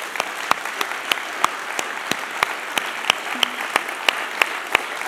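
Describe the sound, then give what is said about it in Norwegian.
An audience applauds the worship team on stage steadily, a dense wash of clapping with sharper individual claps popping out now and then, sustained at an even level throughout with no voices on top. “Kan vi ikke bare starte med å gi dette fantastiske lovsangsteamet en heidundrende applaus?”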